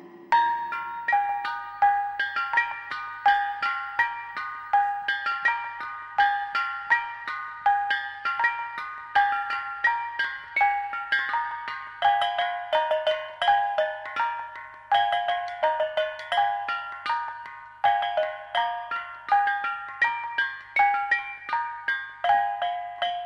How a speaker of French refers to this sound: Voici un caillon de gong appelé bonang. Ce sont des sortes de pots en cuivre renversés sur deux cordes tendues.